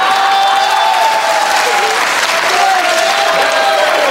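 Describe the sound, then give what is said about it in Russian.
Steady audience applause, women among those clapping, a dense crackle of many clapping hands sustained at a loud, even level for a few seconds, with faint tonal murmurs blended underneath. “Забавно, конечно, что девушки тоже аплодируют, когда я так говорю.”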